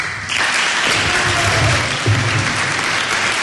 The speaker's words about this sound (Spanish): Pero bueno, vamos a disfrutar de su arte y vamos a darle el aplauso que se merece.